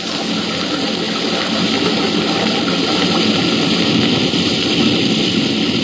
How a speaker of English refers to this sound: stepped onto the slippery shelf of rock next to the falls, hunched his shoulders, and disappeared into the torrent of falling water.